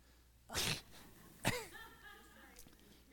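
sneeze

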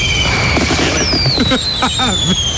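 fireworks sound effect

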